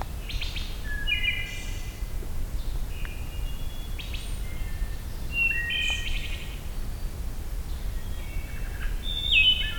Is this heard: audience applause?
no